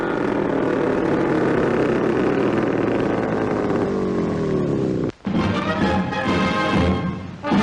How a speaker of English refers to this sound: Down to a pontoon landing in the water. And as the motor purrs to a halt, we say farewell for now to a unique flying machine.